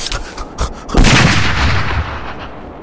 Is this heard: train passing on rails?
no